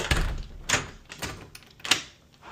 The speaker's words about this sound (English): So I will go back inside. And you can hear all this stuff on the recording. Ducking under the blind, closing the door.